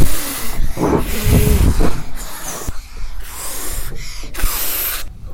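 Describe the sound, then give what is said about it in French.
A wolf huffs and blows at a brick house in a series of forceful, breathy gusts, about five hissing bursts with short gaps, one mixed with a low growling rumble. “Mais le loup a beau gonfler ses joues, il souffle, il gronde.”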